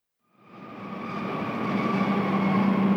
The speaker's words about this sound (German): Achtung auf Gleis 3. Der eingefahrene ICE 70 von Basel nach Hamburg-Altona über Frankfurt am Main, Kassel-Wilhelmshöhe, Göttingen und Hannover. Planmäßige Abfahrt 17.16 Uhr hält heute aufgrund einer Betriebsstörung nicht in Hamburg-Harburg.